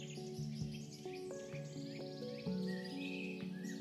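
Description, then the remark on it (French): Soft, scattered chirps and a brief trill from a bird in the trees sit above a steady, gentle musical backdrop of sustained tones; the birdsong is quiet, with no one talking. “Tu observes un oiseau dans les arbres.”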